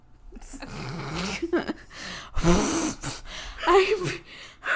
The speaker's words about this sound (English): I'm breathing so hard.